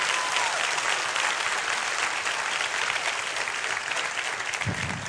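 An audience gives God a hand clap, clapping steadily, a dense, even wash of many hands at fairly loud level, sustained across the whole stretch with no voices standing out.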